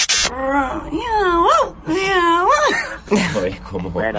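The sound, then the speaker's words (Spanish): A human voice, answering a quiz question, imitates a cat trying to bark like a dog: two drawn-out, rising-and-falling meow-like wails, then a shorter, rougher yelp at the end, fairly loud. “¿Qué sonido crees que haría, y hazme el sonido, un gato que quiere ladrar como un perro?”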